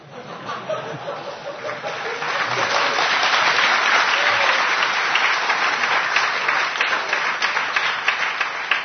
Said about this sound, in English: And Ravan was so happy that he also clapped like this.